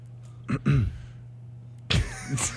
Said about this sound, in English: Well, we're gonna just you get you clearing your throat to say something real poignant or no.